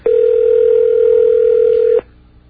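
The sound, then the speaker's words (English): A telephone ringing tone on a call that goes unanswered: one loud, steady, mid-pitched electronic hum lasting about two seconds, then cutting off abruptly into near silence. No voices. “We'll give it two more rings here, and then we're going to move on.”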